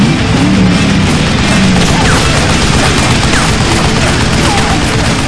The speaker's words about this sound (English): The Angel peppered the crest of the hill with a long burst of gunfire.